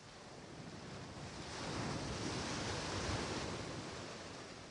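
Ocean waves roll in and break on the shore, a broad wash of surf that swells louder midway and then eases slightly, steady and continuous with no voices.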